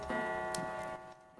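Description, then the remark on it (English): A wall clock reading 7 o'clock ticks steadily, roughly two ticks per second, clear over a sustained tonal drone that fills the background, as a man checks his pocket watch against it. “He checks his pocket watch against the clock on the wall.”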